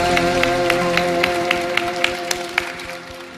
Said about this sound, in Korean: 선교사로 부르신 하나님께 영광의 박수 올려드리겠습니다.